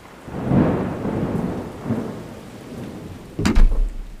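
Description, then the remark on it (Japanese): Steady rain hisses at night under low, rolling rumbles of thunder, ending with a sharp thunderclap near the end. No voices are heard. “雨か。今夜は荒れそうだ。”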